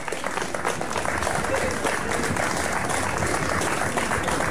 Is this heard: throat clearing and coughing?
no